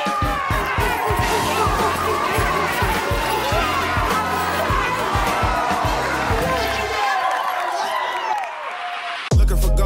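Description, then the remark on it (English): A large audience claps and cheers loudly, with a steady rhythmic pounding beneath the roar and voices mixed in; the noise thins out near the end before cutting off abruptly. “If you want to find a mate, clap twice.”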